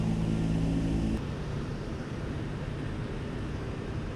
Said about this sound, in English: I'm in the back of the airplane now, near the side gunner positions. As you can hear, it's incredibly noisy. Again, very small, probably less than 6 feet across side to side.